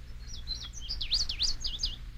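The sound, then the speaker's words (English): A bird sings a quick series of high, sweeping whistled notes that rise and fall in a lively, warbling phrase, heard clearly over a low steady background rumble. “This tape will help anyone to become familiar with a bird's basic song.”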